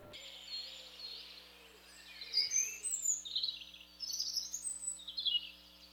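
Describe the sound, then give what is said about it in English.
Several birds chirp and twitter in bright, overlapping bursts, a busy dawn chorus over a faint steady background hum, with no one speaking. “Have you ever woken up to the sound of birds chirping in the morning but couldn't seem to figure out what bird was making that sound?”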